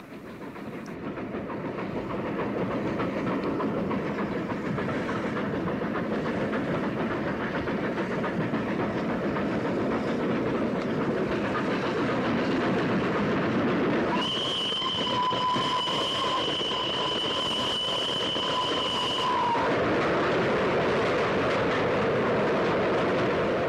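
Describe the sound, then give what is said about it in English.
A B1 steam locomotive labours steadily over the top of Whitrock Summit with a constant roar of running noise, then sounds one long, piercing whistle for several seconds as it enters a tunnel on the way north to Hawick, before the train rumbles on. Loud; no talking. “B1 takes the train over the top of Whitrock Summit and then whistles into the tunnel on the way north to Hawick.”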